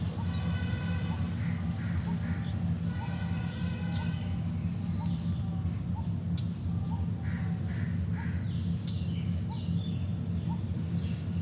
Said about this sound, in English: Those birds, I think, are the ones from the cage. Pigeons, doves. Because they're being fed, they'll agree to be. They're in the cage.